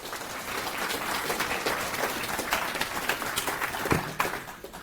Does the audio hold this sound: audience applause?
yes